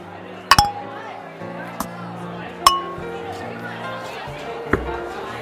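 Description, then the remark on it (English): Glasses clink together in a toast: four bright, ringing taps spaced irregularly over a few seconds, fairly loud, with people murmuring and talking softly in the background. “All right, guys. That's it. Cheers. Cheers. Cheers.”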